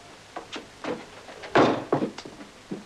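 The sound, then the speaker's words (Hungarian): Heavy footsteps stomp on a wooden floor of an upstairs apartment, about seven dull thuds in an uneven rhythm, the loudest landing midway, with no voices. “Fiam, harmadszor üzen fel az alattunk lakó Gasparec, hogy ezt a dobogást nem lehet kibírni.”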